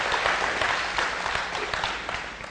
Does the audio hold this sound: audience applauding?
yes